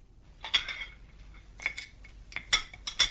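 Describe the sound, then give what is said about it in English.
Several bright, high-pitched clinks of cutlery against plates and dishes sound at irregular intervals as a couple eats breakfast at home in Melbourne, a handful of sharp metallic taps over a quiet background with no talking. “墨尔本有位商业职员正在家里和妻子一块儿吃早饭”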